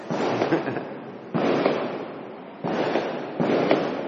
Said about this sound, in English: The firecrackers, that's all right. Tell them to turn the firecrackers off.